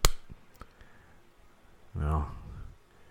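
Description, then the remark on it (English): A single sharp slap as a person hits their own face with the other hand rings out at the start, followed by a couple of faint taps and then a brief voiced murmur. “Let me try slapping myself with the other hand.”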